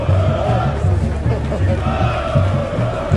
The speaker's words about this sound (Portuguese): Torcida chegando no estádio, clima quente.